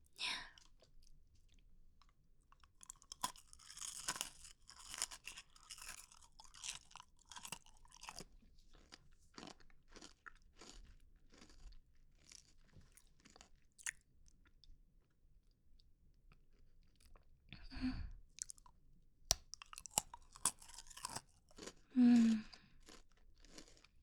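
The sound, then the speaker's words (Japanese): A crunchy snack is chewed in a long run of crisp, crackling bites. The crunches come thick and fast at first, then thin to sparser, irregular snaps with a few louder chomps. “もう一本食べよう。”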